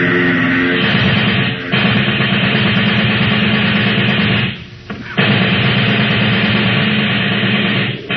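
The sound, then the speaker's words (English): A submachine gun rattles in rapid bursts at a plane taking off, aimed at its propeller, against the loud, steady roar of the plane's engine, with a brief drop in the din about halfway through before it surges back. “Get out the submachine gun.”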